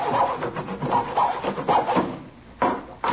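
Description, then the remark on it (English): A hacksaw rasps back and forth through a piece of plywood in a small workshop at the rear of a garage, in steady strokes roughly one every half second, fairly loud, with a couple of sharper scrapes near the end. No one speaks. “We found him in the small workshop at the rear of the garage where he was sawing on a piece of plywood with a hacksaw.”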